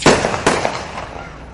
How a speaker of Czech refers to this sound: Ona im eksplodira pre vremena u šaci. Imali smo slučaje da je eksplodirala petarda i u džepu.